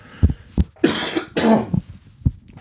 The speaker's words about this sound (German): ich muss da kurz husten.